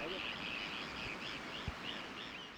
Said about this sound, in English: Gulls sweep overhead, aiming for the dark spots of the river, where the water is black with fish.